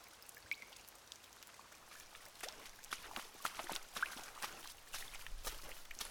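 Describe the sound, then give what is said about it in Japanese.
Steady rain pattering, with scattered sharper drips and splashes tapping irregularly over a soft continuous hiss, growing a little denser toward the end; no voices. “癒しの雨音があなたを導いてくれるよ。”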